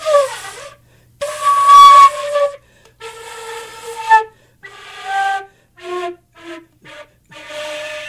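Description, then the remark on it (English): A Gemeinhardt flute with broken keys, rods and springs is played, giving breathy, hissy tones in uneven bursts: a few wavering sustained notes, then short choppy ones near the end, with airy noise mixed into each. “But there are broken keys inside that, or broken rods and springs, I should say, which makes it really hard to produce a sound here.”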